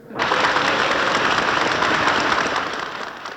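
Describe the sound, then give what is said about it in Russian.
An audience applauding two commanders, a combat general and a famed collective-farm chairman, breaks into loud, dense applause that starts abruptly and holds steady for about three seconds, a thick crackle of many hands clapping with no voices, easing slightly at the end. “Люди аплодируют двум командирам, боевому генералу и прославленному колхозному председателю.”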